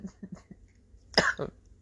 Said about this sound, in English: I'm just coughing. Got a little cold, okay?